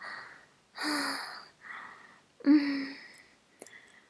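gasping

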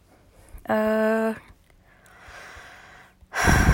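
breathing into the microphone

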